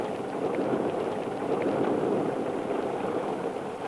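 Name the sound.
rain falling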